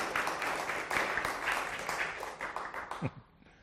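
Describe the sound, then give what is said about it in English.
A church audience applauds the worship band in a dense, steady wash of clapping that holds for about three seconds, then thins out as a brief voice cuts in at the end. “You can give a round of applause.”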